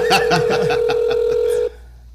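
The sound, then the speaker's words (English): A phone call being dialed: a quick run of about ten keypad beeps over a steady dial tone, fairly loud, then it cuts off into near silence. “Third time's a charm.”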